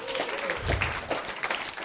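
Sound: audience clapping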